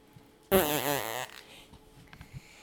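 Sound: fart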